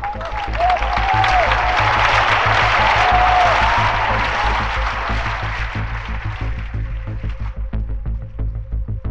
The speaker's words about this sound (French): 12 000 personnes ont alors applaudi dans un même élan la princesse et sa demoiselle d'honneur.